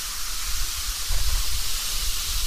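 A steady fizzing hiss of an effervescent drink, continuous throughout with a faint low rumble underneath and no talking.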